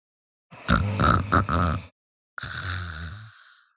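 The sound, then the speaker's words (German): Two drawn-out, rumbling snores with a short pause between them, low and gravelly with a grunting, voiced quality, as if a voice is acting out the snoring of a little monkey in a deep sleep. “Er schnarchte immer noch, als seine ersten Gäste ankamen.”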